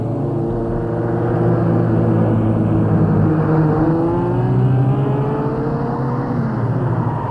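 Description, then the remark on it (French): A car engine hums steadily, its pitch rising and falling as it revs and drives along toward the centre of Rome, a continuous motor drone with no voices. “Et prend sa voiture pour aller au centre de Rome.”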